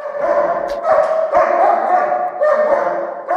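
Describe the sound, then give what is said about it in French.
A German shepherd named Cisco, a scent-tracking dog in Lyon, barks and yips loudly just before a scent-identification test, several excited barks in quick succession running through the whole stretch, with a few brief whimpering tones between them. “Ils sont quatre chiens dont Cisco qui donne de la voix juste avant l'épreuve.”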